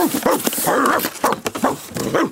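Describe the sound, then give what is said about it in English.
A dog named Tiny barks several times, loud yelping bursts coming in quick succession with brief gaps between them, and no one talking. “Sometimes Tiny is the scariest dog in the world.”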